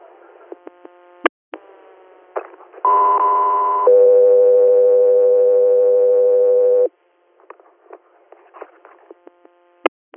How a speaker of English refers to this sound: Guthrie Air, stand by for tones.